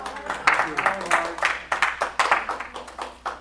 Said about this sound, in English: You know, I love it that you start clapping and I haven't done anything yet. That's the best part of it. It is encouragement.